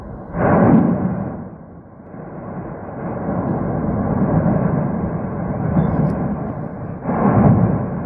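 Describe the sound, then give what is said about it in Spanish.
A deep, continuous rumbling roar from an erupting volcano at night as lava gushes out, loud and steady, with two heavier surging bursts near the start and end. No voices are heard. “Yo no sé si podéis escuchar el rugido, además, que es increíble.”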